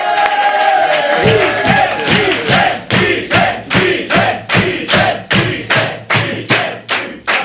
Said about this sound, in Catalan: Però aprofitem-lo, va. Rebem un fort aplaudiment a Vicenç Villatoro!